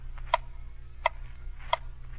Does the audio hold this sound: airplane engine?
no